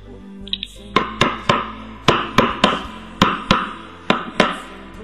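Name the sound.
knocking on a door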